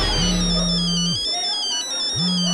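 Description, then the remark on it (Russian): A mobile phone rings with a steady electronic tone in two long bursts separated by a short pause, loud, with a faint high melodic jingle above it. “А у меня не твой номер определился. Я с чужого телефона.”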